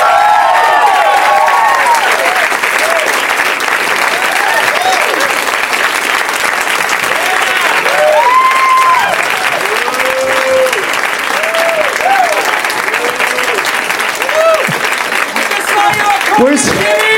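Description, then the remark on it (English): An audience applauds steadily and loudly for the whole stretch as comedians Morgan Murphy, Jimmy Pardo and Bobcat Goldthwait are welcomed out as guests. Individual voices shout and whoop specific things at the guests over the dense clapping. “People are yelling specific things at the guests.”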